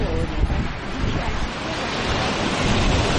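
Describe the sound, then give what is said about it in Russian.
Steady, dense roar of wind and breaking surf at a beach with cold water, where people in ordinary swimsuits play in the water, loud, with gusty buffeting across the microphone and no clear pauses throughout. “Да, вот, пожалуйста, в обычных купальниках люди играются с холодной водой.”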